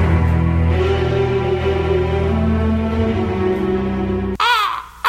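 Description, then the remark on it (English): A raven caws loudly: a long, drawn-out rasping call, then a burst of sharper, wavering squawks just before the end. “Quoth the raven, nevermore.”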